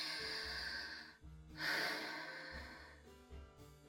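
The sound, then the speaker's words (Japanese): Slow, hot breaths exhaled right against the microphone, several long airy whooshes in a row with brief pauses between them, fairly loud, with no talking. “熱々の吐息、チンポに何度でも当ててあげる。”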